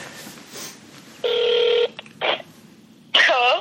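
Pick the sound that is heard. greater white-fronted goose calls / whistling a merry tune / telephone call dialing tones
telephone call dialing tones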